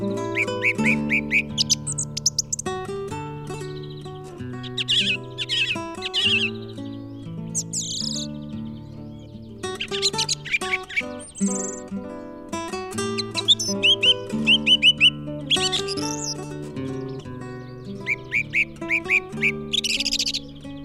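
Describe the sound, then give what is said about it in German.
A song thrush sings in a garden, a varied, phrase-repeating song of bright, whistled notes and trills, clear, over steady low background tones, with brief pauses between phrases. “Das war die Singdrossel.”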